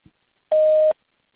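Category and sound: signal or alarm, voicemail beep tone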